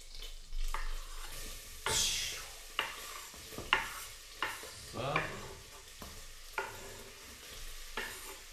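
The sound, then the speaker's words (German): Onions and pork belly sizzle in very hot oil and clarified butter with a steady crackle, while a spatula scrapes and stirs the pan in repeated strokes, fairly loud, with no talking. “Da kommen dann jetzt die Zwiebeln und der Bauchspeck rein. Ja? Das wird da dann angedünstet. Das wirst du jetzt gleich hören.”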